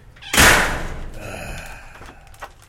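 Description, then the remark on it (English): A heavy metal prison cell door slams shut with one loud clang, then rings and reverberates as it fades, ending with a faint second clank. “By the way, whenever we need like a prison door close.”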